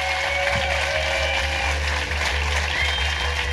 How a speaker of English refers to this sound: Ladies and gentlemen, give a massive round of applause to the amazing Jamie Dimitriou.